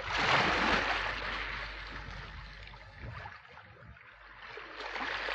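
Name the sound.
sea water lapping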